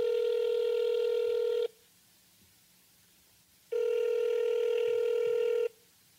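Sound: telephone dialing and ringing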